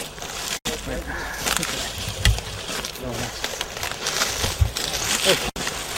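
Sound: water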